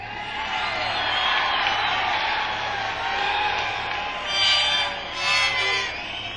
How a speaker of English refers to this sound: If I say a couple of things and you don't react, then I say, we're going to be here for a while, and you all yell, and I feel good, and you feel good.